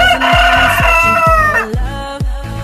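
A single long rooster crow rises and trails off over a steady thumping electronic beat, loud, with no voices.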